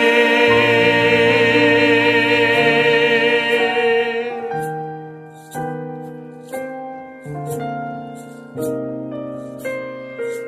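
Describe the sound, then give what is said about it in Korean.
Keyboard music plays alone, starting with a held, shimmering chord that swells and sustains, then moving into a series of distinct struck chords that ring out and fade at a steady, unhurried pace. “제 숨소리 하나하나까지 지금 다 잡히는 것 같아가지고 굉장히 지금 경건한 마음과 이만은 건반 소리가 너무 잘 들려.”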